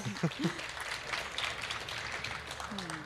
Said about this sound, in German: Wir wollen aber die Chance nutzen, nochmal Danke zu sagen. Danke an das Bauteam, die den Orbit aufgebaut haben. Vielleicht mal einen kräftigen Applaus hier von allen für den Orbit.